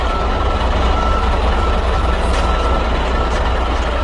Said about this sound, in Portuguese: Depois de chegarem imensos caminhões, os carregamentos de pedra e areia passam por uma espécie de liquidificador gigante.